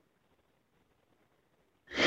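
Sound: excited gasp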